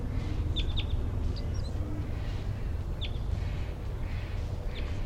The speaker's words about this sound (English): pointed at the wild bird. Real one, wild chitter.